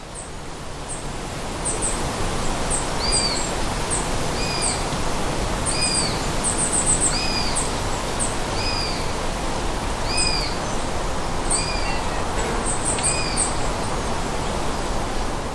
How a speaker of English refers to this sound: Now, if anybody has ever listened to the squeaky gate call of young long-eared owls, it may seem familiar. But these aren't long-eared owl chicks. No, in fact, these are two sparrowhawk chicks that are calling for food, letting their parents know